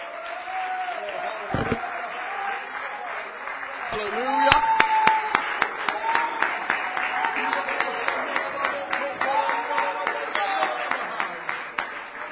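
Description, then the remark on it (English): An audience in a house of God breaks into loud, sustained hand clapping of praise to the Lord in the morning, a dense patter of many hands that swells partway through and keeps going, with voices calling out over it. “Give the Lord a good hand clap of praise in the house of God this morning.”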